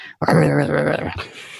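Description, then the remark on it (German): A person imitates dogs grumbling as they walk away after being told to stop barking at the door, making a short, low grumbling growl about one second long, fairly loud, then trailing off into a quieter breathy murmur. “Und dann gingen die meistens so krummelig dann weg.”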